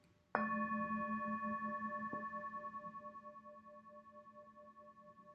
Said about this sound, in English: Following the sound of the bell, my breath brings me back to the safe island of mindfulness.